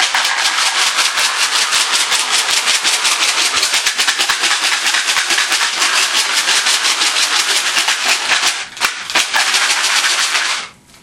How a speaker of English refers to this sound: Close. Close. Put your finger in there so bullets don't go flying out. Shake them up.